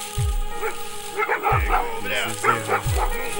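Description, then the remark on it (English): A police dog barks aggressively several times in quick, irregular bursts, loud, with low thumps and a noisy commotion underneath. “Get your motherfucking dogs off.”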